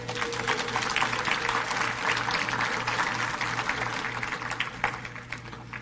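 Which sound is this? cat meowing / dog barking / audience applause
audience applause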